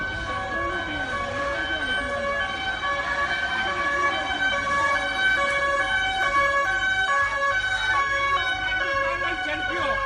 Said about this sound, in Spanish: Hemos escuchado pánico, caos, sirenas de los servicios de emergencia, gente pidiendo auxilio, griterío, sonidos propios de alguna desgracia, de terror.